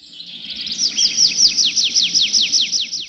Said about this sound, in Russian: И в эту минуту с другой стороны поляны зазвучала переливчатая трель дрозда.